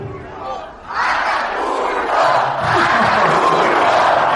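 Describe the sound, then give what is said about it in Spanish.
A huge crowd of 42,517 fans, a record attendance for a tennis match, in Mexico roars and cheers in a sustained, loud wash of voices that swells after a brief dip and keeps rising, with shouts blending into a dense, continuous din. “Camina conmovido por el túnel y el cansancio y el apoyo incondicional lo dejan sin aliento.”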